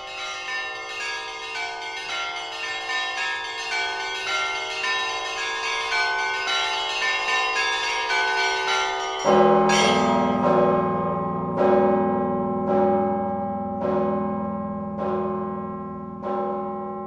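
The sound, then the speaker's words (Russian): Church bells peal continuously in a dense, ringing cascade; partway through a deeper bell joins, striking steadily about every second and a half with long, shimmering decays. No voices are heard. “Мы продолжаем разговор о колокольном звоне и о региональных местных традициях.”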